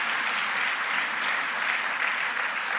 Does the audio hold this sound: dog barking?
no